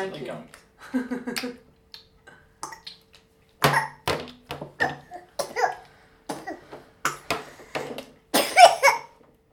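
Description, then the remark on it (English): A big fit of coughing: a string of harsh, loud bursts coming in quick succession, preceded by some brief murmuring vocal sounds. “That was a big cough.”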